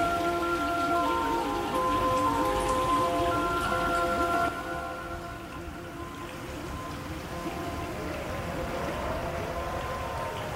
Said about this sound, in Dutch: Water. Ik hoor water. En een orgeltje. Van de fontein. Of wat is dat? Ja, het is de soundtrack komt van een van de sculpturen aan boord.